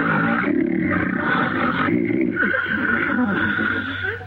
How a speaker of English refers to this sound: The breeze from Ollie's snore sweeps Stan from his stool.